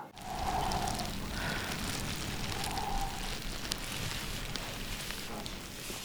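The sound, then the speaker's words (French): Steady wind and rain with dragging footsteps, a dense, continuous hiss and low rumble, fairly loud and unbroken throughout, with a couple of brief faint tonal whines rising above the downpour. “Ils repartent, vent et pluie, pas traînant, etc.”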